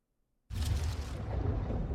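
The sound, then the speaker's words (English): After a moment of silence, a sudden thunderous crash of planet-sized carbon-bergs slamming together in space bursts in, then rolls on as a loud, deep, sustained rumble with a crackling hiss on top. “Carbon bergs, size of planets crashing into each other.”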